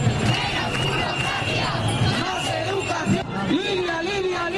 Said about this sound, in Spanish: Gritos en la manifestación que este domingo sacaba a miles de personas al centro de Oviedo, 30.000 según los sindicatos, unas 10.000 estima la policía.